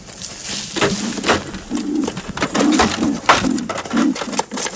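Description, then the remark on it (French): Wood pigeons coo in a steady, overlapping series of low, soft hoots, with scattered rustling and clattering noises mixed in and no talking. “Gaver les palombes à la bouche, ça peut être dangereux pour, en termes d'hygiène, ça peut poser”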